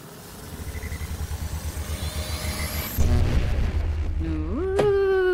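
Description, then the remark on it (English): A sci-fi time machine revving-up sound effect: a pulsing, throbbing low engine-like rumble builds with a rising whine, then surges louder with a burst and a sweeping upward tone near the end. “because we are revving up TJ's time machine”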